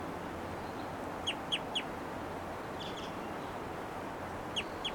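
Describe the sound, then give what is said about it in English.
A female bird gives short, high, downslurred flight calls in brief bursts, a quick run of three, then a pair, then two more, over steady hissing background noise. “There's some flight calls there.”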